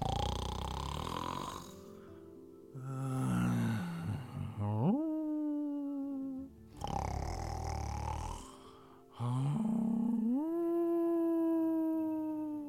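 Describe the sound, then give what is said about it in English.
Loud, exaggerated snoring of a character asleep in grandmother's bed in a Little Red Riding Hood story, in three long cycles, each a harsh rattling inhale followed by a rising, whistling, wavering tone, with no talk over it. “And he fell straight to sleep and started to snore.”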